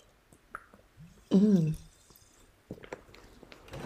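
A single sip of water is taken, with a short wet gulp and swallow standing out loudly amid soft mouth clicks and small movement noises.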